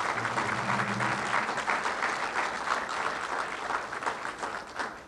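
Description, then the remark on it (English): Sustained applause from a sizable audience for the event's organizer, a dense steady patter of clapping hands that holds for several seconds before tapering slightly toward the end. “So a big round of applause”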